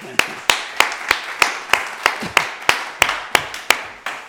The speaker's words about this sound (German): Da wir ein bisschen wenig beitragen können dazu, vielleicht klatschen wir einfach mal.